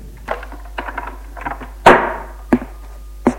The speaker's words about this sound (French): Une heure plus tard, elle est assise à sa table à écrire. La porte s'ouvre d'un coup.